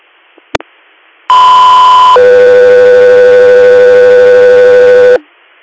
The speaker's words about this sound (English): Guthrie Air, stand by for tones.